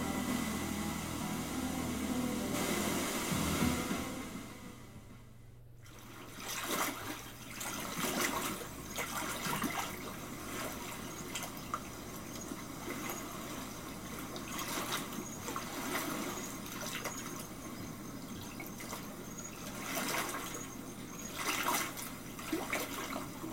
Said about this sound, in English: Where am I? The river brought us downstream.